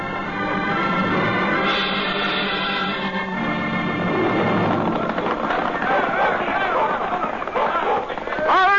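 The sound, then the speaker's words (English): Horses of a sheriff's posse gallop hard as riders cut out from the herd and ride up behind outlaws, a continuous rush of drumming hoofbeats that fills the scene, with a steady tonal sound layered over the first few seconds. “Now, riders from the sheriff's posse cut out from the herd, ride up behind the outlaws.”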